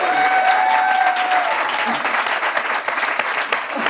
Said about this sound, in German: Vielen Dank dafür. Ihr dürft klatschen.